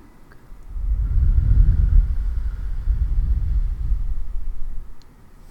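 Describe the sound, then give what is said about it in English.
A heartbeat heard against the chest: a deep, muffled low-pitched pulsing that swells in and holds steady for about four seconds, then fades, with no talking. “Listen to my heartbeat.”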